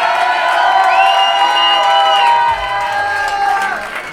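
A large crowd in Marseille at the Hangtime Awards roars and cheers steadily for a performer, with overlapping shouts and high whoops rising above the dense wash of voices, staying loud throughout with a slight dip midway.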